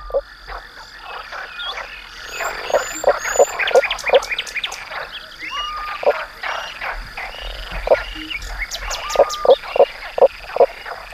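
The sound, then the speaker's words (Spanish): A frog sings underwater, its throat resonator letting it call below the surface, in rapid bursts of clicking, croaking pulses that repeat steadily. A constant high hiss and faint chirps sit in the background, and no one speaks. “El resonador además les permite cantar bajo el agua, como este que escuchamos aquí en primer término.”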